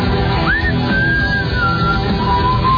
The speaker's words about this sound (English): Now I'm just going to sit here and whistle to myself.